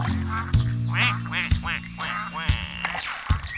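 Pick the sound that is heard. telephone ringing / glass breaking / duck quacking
duck quacking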